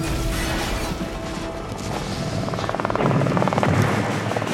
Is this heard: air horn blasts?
no